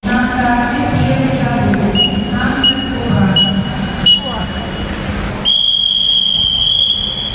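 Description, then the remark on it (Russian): At the start of a 100 m breaststroke swimming heat with eight swimmers, a referee's whistle gives a few short, thin blasts sending them to their starting blocks, then one long, loud, steady blast for them to step up, over a busy, echoing background of voices and crowd noise. “После серии коротких сигналов они занимают место каждый возле своей стартовой тумбы. По свистку поднимаются на нее и по команде «Старт» прыгают в воду.”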